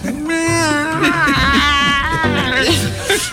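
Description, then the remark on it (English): A person imitates a dying pterodactyl with a loud, shrill, wavering screech, stretching for about three seconds with strained warbles and cracks in pitch. “Like a dying pterodactyl.”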